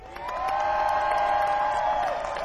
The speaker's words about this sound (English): Let's hear you cheer. What do you think? Is that good? You can do better than that. Let's cheer a little bit more.